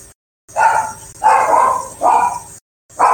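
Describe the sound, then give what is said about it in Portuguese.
Loud dog barking in four drawn-out bursts at a steady rhythm, separated by brief silences, with no voices. “Acho que todos os cachorros entram em ovação. Começa a latir.”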